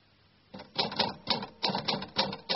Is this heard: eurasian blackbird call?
no